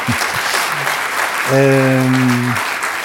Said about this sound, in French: Et lorsque je pense à Natacha Apana, qui est la lauréate de ce prix, viens, Natacha. Je vais l'applaudir.